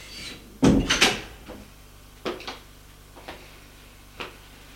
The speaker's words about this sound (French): Elle ouvre la porte et il sort.